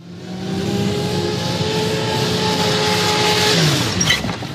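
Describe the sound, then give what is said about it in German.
A Porsche engine drones steadily with harmonic tones that drop in pitch as it slows on a wide driveway and then brakes hard, ending in a brief hiss of braking near the end. No one speaks. “Als er eine kleine Gestalt bei den Kiefern neben seinem Haus stehen sah, trat er heftig auf die Bremse.”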